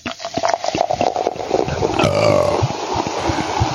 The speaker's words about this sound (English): Nice. Very burpy today. Very burpy. Yeah. Yeah, it's early on for the burps. Usually those come a little bit later in the show.